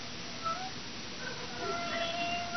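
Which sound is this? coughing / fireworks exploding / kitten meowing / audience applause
kitten meowing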